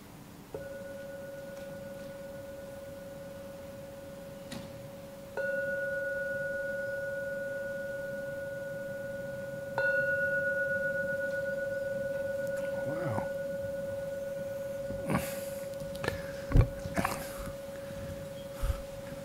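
A meditation bell is struck three times to mark the end of a meditation, about five seconds apart, each strike blending into a long, steady, mid-pitched hum. A few soft knocks and rustles follow near the end.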